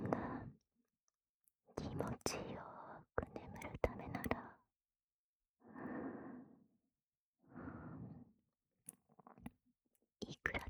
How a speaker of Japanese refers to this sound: 吐息、それに、耳なめを、左右、どちらの耳にも、届かせられる。